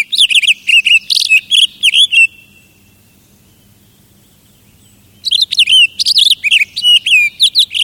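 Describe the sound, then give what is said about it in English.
A Townsend's solitaire sings in a Pacific Northwest forest: a bright, rapid warbling song of tumbling whistled notes, loud, pausing for a few seconds before resuming in another long run, with no talking. “A Townsend solitaire's lovely song rings through a Pacific Northwest forest.”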